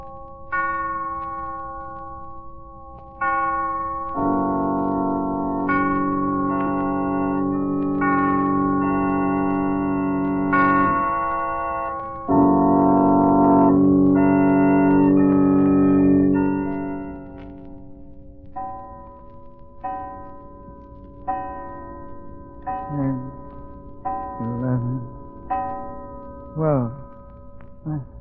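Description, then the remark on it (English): A clock chimes midnight with a series of ringing, bell-like strokes. The tones are loud and resonant, swelling and overlapping at first, then striking more sparsely as the sound trails off. “He'll rise from bed in a hypnotic state, dress and start for a walk just as the clock strikes midnight.”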